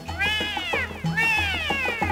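Two drawn-out, rising-and-falling cat meows, loud, one after the other with a brief gap, over a steady low hum.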